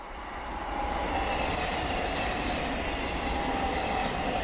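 A train rolls past on the tracks with a steady, loud rumble and rattle, a faint metallic whine running through it, swelling in over the first second and then holding constant.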